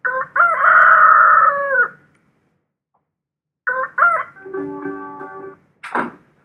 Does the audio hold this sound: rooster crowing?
yes